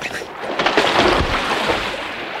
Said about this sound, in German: Das Holz, bei dem die Umbildung erst angefangen hat, schwimmt. Sieh selbst. Ich werfe dieses Stück hier ins Wasser.